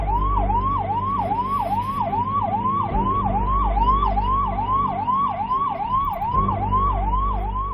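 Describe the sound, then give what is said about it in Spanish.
An ambulance siren wails in rapid, repeating rising sweeps, loud, over a steady low engine rumble with no voices, as the ambulance arrives. “Cuando llegó la ambulancia, al principio no me querían dejar entrar.”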